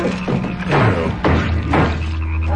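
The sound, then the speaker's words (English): A frog croaks in deep, raspy pulses, about three loud throaty bursts over a low humming tone, with no talking. “Being given birth to from the egg of, a frog.”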